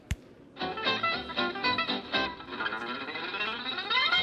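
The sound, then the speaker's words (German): Rapid electric guitar runs from a video, played by a guitarist using only three fingers, with heavy distortion and effects, a steady stream of quick bright notes after a brief sharp click at the start, fairly loud and with no voices. “Und dann spielt er trotzdem so schnell wie ein Wiesel.”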